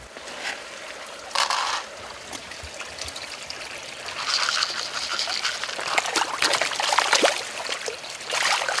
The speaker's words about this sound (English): The tank water is rich with fish waste. It flows through a system that removes what is not wanted. The water then flows into vegetable crops nearby.